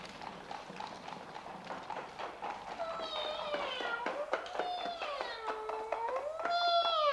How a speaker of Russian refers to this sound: Карета подъезжает к замку